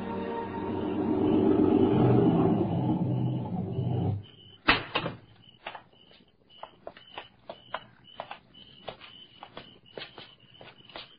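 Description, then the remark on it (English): A car engine rumbles steadily for about four seconds as a car draws up to a house in the country at dawn, then cuts off. A sharp slam follows, then a string of light, uneven clicks and taps. Nobody speaks. “Greetings. I heard you drive up.”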